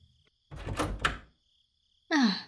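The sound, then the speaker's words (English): A door opens with a rattling clunk of the latch and handle, then after a brief pause a short, loud creak or scrape of the door swinging as someone enters. No one speaks. “Please, close the door.”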